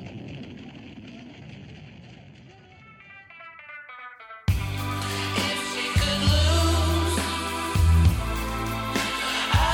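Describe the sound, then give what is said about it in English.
A drawn-out, screeching monster roar, made by dragging something across the strings of a double bass and feeding it through a reverb machine, trails off into a heavy reverb echo, then a loud, dense burst of booming, distorted sound crashes in and fills the rest. “They then took that sound and fed it through a reverb machine, so you really get that strong, deep, powerful echo.”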